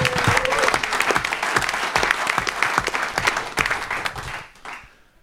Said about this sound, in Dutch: Dus die mensen die doen echt fantastisch werk en daar wil ik echt een oorverdovend applaus voor hebben.